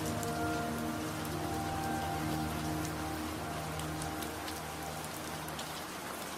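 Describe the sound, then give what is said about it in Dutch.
Steady rain patters on a roof and windows, a dense continuous hiss with scattered sharper drops tapping softly against the window glass, at an even, moderate level with no voices. “En terwijl je daar zo zit, luister je naar het geluid van de regen dat op het dak en de ramen valt.”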